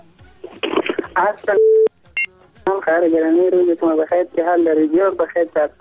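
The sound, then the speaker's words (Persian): Short electronic phone tones, a steady beep followed by a quick pair of higher blips, break into ongoing talk as a listener's call connects to a call-in program; speech continues before and after over a telephone-like line. “بازم تماس داریم.”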